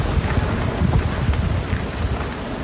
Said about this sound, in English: Do you hear it right there? The hiss of the fire consuming trees and brush above the San Gabriel Valley?